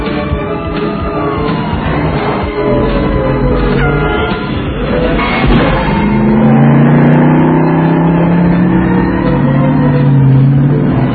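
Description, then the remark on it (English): A BMW car accelerates hard, its engine roaring loudly and steadily with rising, sweeping tones as it picks up speed. No one speaks over it. “Yeah, you have a BMW. Act like it.”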